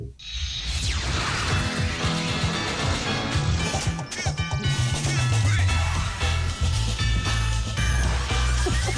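Upbeat opening theme music of the animated TV series Futurama, loud and continuous, with a bouncy bass line, bright synth-like melody and busy percussion throughout, no voices.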